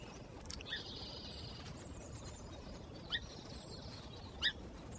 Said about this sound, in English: It's 6 o'clock. Sunrise in the marsh. Song sparrows, American robins, red-winged blackbirds, nuthatches, yellowthroats, and ravens are heard in the rich tapestry of morning birdsong.